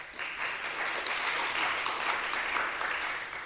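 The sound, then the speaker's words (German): An audience claps as a clap-o-meter vote, clapping to answer yes to whether they have relatives with an old apple tree in the garden, in a dense, steady burst of applause that stays loud and even for several seconds, with no voices over it. “Das stimmt, ja, das Klatschbarometer.”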